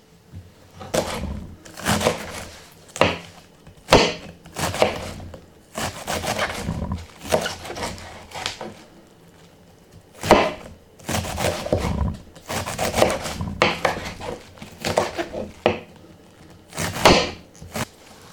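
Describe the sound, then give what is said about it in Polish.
A knife chops through half a head of cabbage in loud, crunchy bursts, coming in irregular clusters of rapid cuts with short pauses between them. No one speaks. “Pierwszą połówkę kapusty już mamy pokrojoną.”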